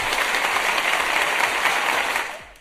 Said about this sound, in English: Sorry, that clapping sounded like horrendous rain on a roof.